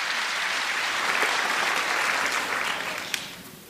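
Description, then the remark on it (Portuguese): An audience applauds in a steady, dense wash of clapping that holds for several seconds before thinning slightly toward the end, with one sharper clap standing out near the finish. “Eu gostaria que desse uma salva de palmas para esses e também para os outros que vão.”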